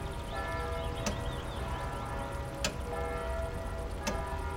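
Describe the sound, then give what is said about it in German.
A clock ticks steadily, with sharp clicks spaced about one and a half seconds apart over a dense, humming background of steady tones and low rumble. No one speaks. “Konzentrieren Sie sich auf das Ticken der Uhr.”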